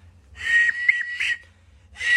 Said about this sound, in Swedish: Det låter som när du garvar. Bara skratta längre så uppstår det. Ja, men alltså det han gör är alltså att vissla med halsen.